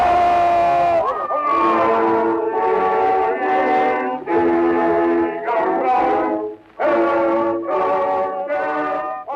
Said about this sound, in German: Hier jubeln die Menschen in Berlin Kaiser Wilhelm II. Zu.